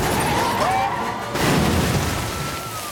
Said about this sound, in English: He crashes into a line of water-filled drums.